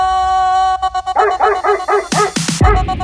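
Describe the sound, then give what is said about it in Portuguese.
A dog barks and yips in a quick run of short, high bursts, ending with a couple of sharper, louder barks, all over a steady humming tone in the background. “Late, ui, ui, cachorro. Late, que eu tô passando.”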